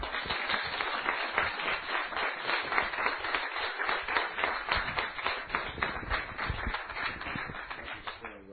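An audience breaks into steady, dense applause with cheering voices mixed in, cheering for a woman who is about to preach on an ear of corn. The clapping holds at a loud, even level for several seconds before easing off slightly at the end.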